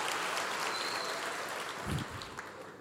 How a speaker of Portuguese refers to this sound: Então, se vocês me aplaudiram, por favor, esqueçam, aplaudam o seu pastor, que merece toda a honra nesse momento.